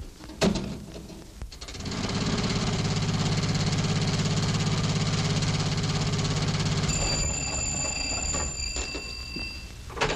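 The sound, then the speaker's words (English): An old car engine starts up and runs with a steady, rattling rumble for several seconds, then tapers off as a thin high whine creeps in near the end. No one speaks. “No, I'll take the jitney into town and get my car.”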